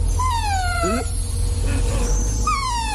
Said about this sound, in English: That is the whine of a dachshund. Oh, is it? An irritating sound.